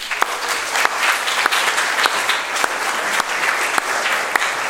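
A large audience in a hall claps steadily for specially invited guests, a dense wash of hand claps with a few sharper, louder claps standing out now and then, sustained at an even level throughout with no talking.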